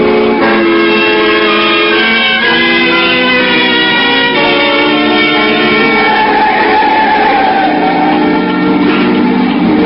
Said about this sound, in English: He didn't slow down, and the car swerved crazily as it slipped from one side of the highway to the other.